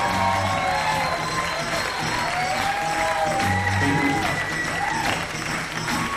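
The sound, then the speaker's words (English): A large crowd applauds the band steadily for several seconds, the clapping dense and loud throughout, mixed with cheers, whoops and a few shouted voices rising above it. “Ladies and gentlemen, how about one more big round of applause for the band?”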